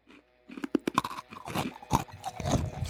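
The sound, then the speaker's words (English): Loud crunching of hard, crunchy food being chewed, with repeated brittle cracks and grinding bites over a few seconds and no talking. “What, just the crunch?”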